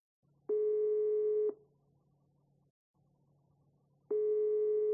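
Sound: telephone ringback tone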